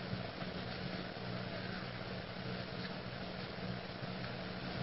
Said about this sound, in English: Oh, there's a car in my rearview mirror. Oh, God, that car.